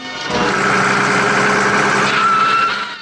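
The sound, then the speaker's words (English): A bus engine roars steadily as the bus veers across the road, a loud sustained drone with a rising whine and harmonic hum, swelling quickly at the start and holding strong before easing off slightly. “The bus veers across the road.”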